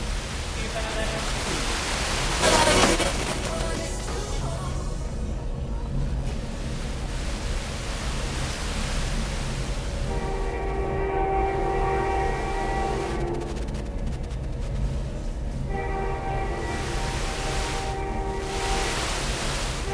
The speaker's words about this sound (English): So I start off with a typical kind of establishing shot. You can hear the sound of the train. But then it comes in a bit closer when you realize that I'm trying to be quiet because it's just after midnight.